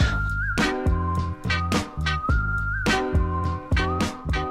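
A bright whistled melody floats over an upbeat dance groove in the intro of a 2019 song by a British independent musician, with punchy, regular beats and a bouncing bassline, the whistle sliding between held notes.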